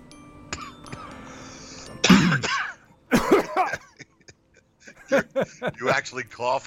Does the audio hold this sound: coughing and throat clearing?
yes